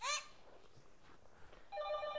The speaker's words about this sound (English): I hear a telephone ringing over there.